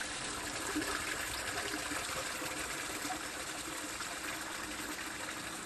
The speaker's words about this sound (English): Now, that is the volume of water that's rushing into the drain at the side of the road here.